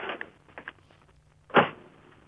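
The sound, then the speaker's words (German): A car door slams shut with a solid, low thud after a few faint clicks and rustles, standing out loudly for a moment before fading to quiet. “Kann ich noch die Tür haben, bitte? Nochmal eine Tür?”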